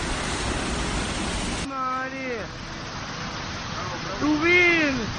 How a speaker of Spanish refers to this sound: Mira la cascada que cae.